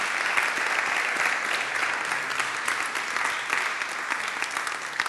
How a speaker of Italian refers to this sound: intanto venite qua che accogliamo con un applauso.